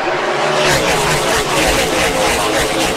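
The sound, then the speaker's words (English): Loud, continuous roar of NASCAR stock car engines racing at Darlington Raceway in South Carolina, a dense wall of high-revving motor noise with slight surges as several cars thunder around the track before empty stands. “The call on Fox Sports of stock car racing returned to the Darlington Raceway in South Carolina.”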